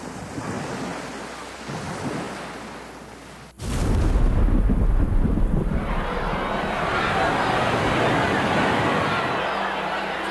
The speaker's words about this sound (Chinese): 吃下这瓶晕船解药，相信我们很快就能穿过这片暴风雨，逃离无边无际的情海。